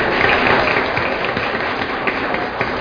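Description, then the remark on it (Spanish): Steady, dense applause from a crowd at a ceremony as people are called up by name, a continuous crackle of many hands clapping at once, loud, with no voices rising above it. “Fuerte, fuerte el aplauso, por favor.”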